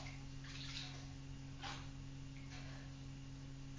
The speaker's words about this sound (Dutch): Het is warm water, of warm badwater.